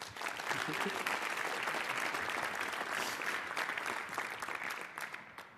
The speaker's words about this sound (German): Und ich freue mich sehr auf seinen Talk. Und ja, wünsche euch viel Spaß und einen herzlichen Applaus bitte.